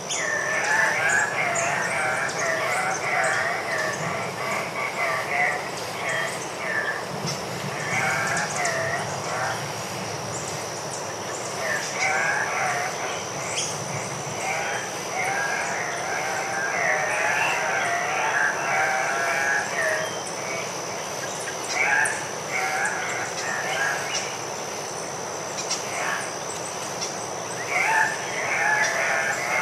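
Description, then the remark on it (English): Andean cock-of-the-rock birds, the national bird of Peru, give loud, nasal squawking calls in irregular bursts at dusk in the jungle, several overlapping, over a steady high insect whine and faint background ambience. “And at dusk one night, we went out to try and capture the sound of the cock of the rock, which is actually the national bird of Peru.”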